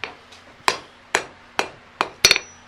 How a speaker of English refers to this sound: And when you hammer the anvil itself every few hits, that's to clean off the hammerhead? No, it's actually more... rhythm? Of a rhythm